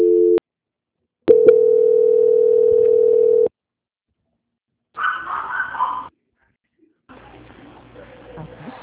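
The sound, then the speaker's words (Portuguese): A neighbor's dog barks in a short burst after a long steady telephone tone ends; faint background noise follows. “Só um instantinho que o cachorro do vizinho.”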